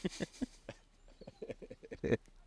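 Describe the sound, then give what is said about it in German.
A person mimics a goat with a string of nasal, wavering bleats, fairly loud, the quavering cries rising into a strained final burst. “Ich gebe den Ziege!”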